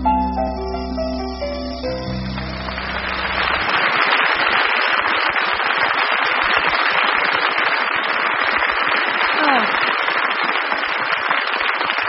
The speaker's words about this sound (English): Thank you. You know, that's a sound I love to hear, is applause.